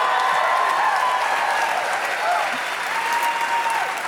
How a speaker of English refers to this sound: Clap a little less.